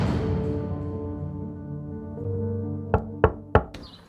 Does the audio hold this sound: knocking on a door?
yes